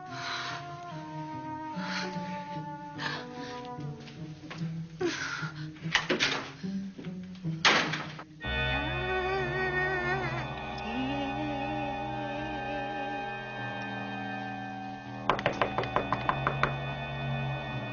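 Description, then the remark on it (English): A series of heavy wooden knocks and thuds, then a long, wavering creak as a door slowly swings open, its groaning hinge drawn out over several seconds. “The door's open.”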